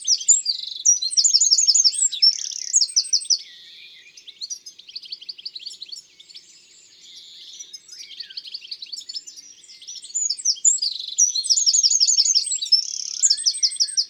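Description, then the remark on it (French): A tiny brown bird weighing under 10 grams, perched in a poplar, sings a loud, vigorous, strident song of rapid trills and sharp chirps, repeating the same phrase at fairly regular intervals, continuous, with a slightly quieter stretch in the middle before the bursts return. “On le reconnaît à son chant très vigoureux et strident.”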